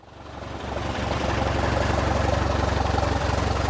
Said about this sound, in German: Ein kleines Sportflugzeug mit einem 6-Zylinder-Dieselmotor rollt auf eine Parkposition des Flughafens Kiel-Holtenau.